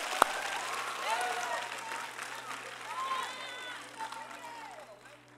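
An audience applauds steadily for several seconds, dense clapping mixed with scattered whoops and cheers, then tapering off toward the end.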